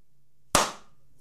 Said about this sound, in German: Langsam und ironisch im Hintergrund. Meint aber genau das Gegenteil. Aber wenn ich von etwas begeistert bin, dann klatsche ich doch nicht. Das ist so ein Bösewicht-Klatschen.